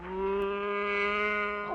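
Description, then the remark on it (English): A single long moo from a cow being taken for a walk, steady and loud, with a droning, strongly tonal quality that bends downward as it trails off. No one speaks over it. “what are you doing with that cow?”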